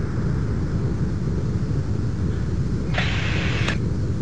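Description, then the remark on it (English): Two quick, sharp sonic booms from a space shuttle landing at Kennedy Space Center, picked up by microphones beside the runway, break through a steady, rushing wind-like roar, the second pop following the first by under a second. No one speaks. “Those two pops we heard were the sonic booms that I mentioned.”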